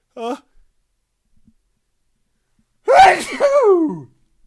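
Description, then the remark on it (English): A brief voiced intake is followed by a pause, then one loud sneeze with a sharp explosive burst that trails into a drawn-out vocal groan. “And I'm going to sneeze now.”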